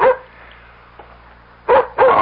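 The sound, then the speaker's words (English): A dog barks three times at the door: one short bark, a quiet pause, then two quick barks in a row, with no one speaking. “That's Nikki at the door with my dog.”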